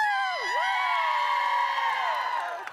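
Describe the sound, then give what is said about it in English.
A crowd trying to out-cheer another group erupts in sustained cheering and high-pitched whoops, loud and steady for about three seconds with voices swooping up and down before tapering slightly at the end. “And we're going to out-cheer them. You up for that?”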